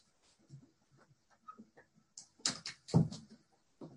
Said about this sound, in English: So I'm just going to close the door here.